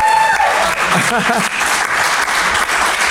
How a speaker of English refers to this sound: Round of applause. I think this is a lovely story.